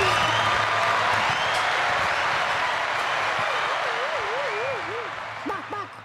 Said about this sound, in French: On applaudit tous.